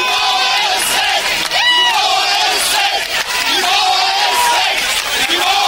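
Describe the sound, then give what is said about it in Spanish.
A large crowd of Germans shouts and roars in amazement as the Wall, built in 1961, falls on 9 November 1989, many voices overlapping in a dense, loud swell with rising whoops and cries that surge and dip continuously. “El muro cayó, gritaban asombrados los alemanes frente al derrumbe de la pared construida en 1961, símbolo de la lucha entre el comunismo y el capitalismo.”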